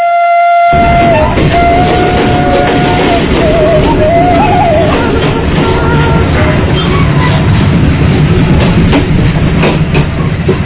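A diesel train rumbles loudly and steadily along the rails in West Java, Indonesia, heading toward Kampung Naga, with heavy low engine roar, rattling clatter, and a brief whistle-like tone near the start.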